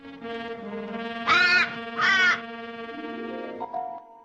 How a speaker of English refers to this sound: Clouseau shoots an irritated look up at the noisy crow in the branch above